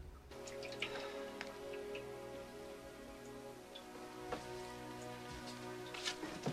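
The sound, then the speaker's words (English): Water pours steadily from a water cooler into a glass in a home utility room, a continuous trickling stream with a few sharp drips and clinks, fairly quiet, with no voices. “At home in the utility room, Clark gets a glass of water from a water cooler.”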